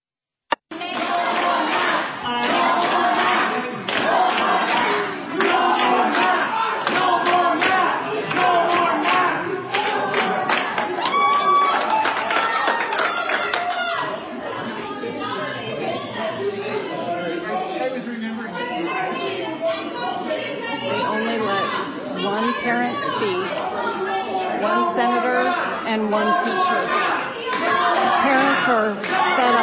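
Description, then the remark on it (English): A crowd at a school board meeting in Utah chants the slogan "no more mask" loudly and repeatedly, many voices overlapping with shouts and scattered clapping, the noisy chorus holding steady for about half a minute. “Hear him chanting no more mask.”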